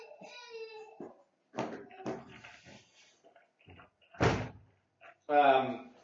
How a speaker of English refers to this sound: One second, my kids are screaming, and the door's open.